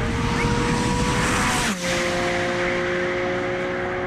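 A Porsche 718 GT4 RS sports car engine roars loudly and steadily, with a brief break in the sound as it shifts gear before the high-revving drone resumes at a new pitch.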